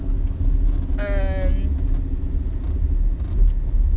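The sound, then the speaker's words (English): A pickup truck with manual, non-automatic windows drives with all its windows open: a steady, loud low rumble of engine and road noise with wind buffeting, and a brief tonal whine rising over it partway through. “like, obviously all the windows are open and I don't have automatic windows in my truck, so I'm not about to, like, roll up and down the window like other people do.”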